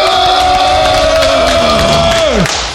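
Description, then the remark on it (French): A loud audience cheers and claps continuously to welcome three members of the Four Horsemen, with a long sustained shout ringing over the applause before it slides down in pitch near the end. “Alors on vous écoute, applaudissez-les, on va les applaudir là, hein. Allez, du bruit.”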